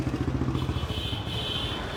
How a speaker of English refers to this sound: On the perimeter roads, the sound that dominates is of traffic.